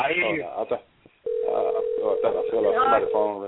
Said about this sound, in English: Somebody's phone ringing. I don't know. Mute your phone if you're not coming. Please mute your phone.